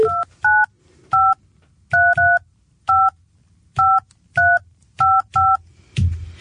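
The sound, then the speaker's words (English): A rapid series of touch-tone keypad beeps dials a phone number to call a contest finalist on Algoa FM radio, each short dual-tone chirp clear, spaced in quick irregular bursts with brief silences between. “Got the right number.”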